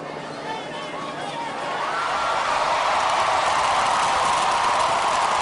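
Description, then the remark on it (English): A large outdoor crowd murmurs and then swells into sustained cheering and applause as the Confederate flag is taken down, a dense wash of many voices that grows louder partway through and holds steady. “Hear the flag coming down. You can hear the crowd.”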